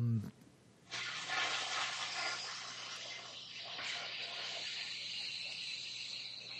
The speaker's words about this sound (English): Oh, flushing. Nice.